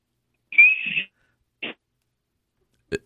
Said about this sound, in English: I think we do need to hear what the wiener whistle sounds like, you know, out there in the field.